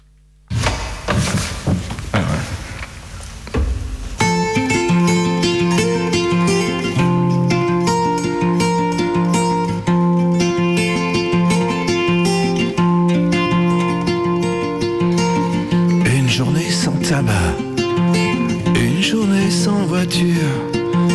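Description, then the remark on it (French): A song of guitar and voice washed in heavy analog reverb, its sustained chords ringing out loud and steady from the first second to the end. “c'est juste une guitare... Une guitare-voix passée dans une réverbe analogique.”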